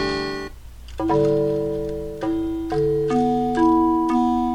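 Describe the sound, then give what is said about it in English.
Vibraphone notes played on a keyboard: about six struck, bell-like tones at a slow, uneven pace, each ringing on and overlapping the next, with no talking. “I think that's some sort of vibraphone.”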